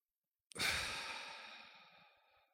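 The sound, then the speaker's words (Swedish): A single long, breathy exhale on a count of eight in a 4-7-8 breathing exercise starts abruptly after a brief silence, then fades steadily over about two seconds. It's clear, a slow, airy out-breath like a deep sigh. “Andas in på 4. Håll på 7.”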